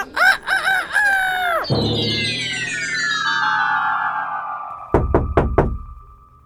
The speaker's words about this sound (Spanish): ¡Traigo un gallo! ¿Es de usted? ¡Sí! ¡Ese es mi gallo!